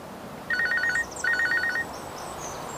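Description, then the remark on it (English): A telephone rings twice in short, trilling electronic bursts separated by a brief pause, a call from a broker, clear, with no voices over it. “That's my broker now.”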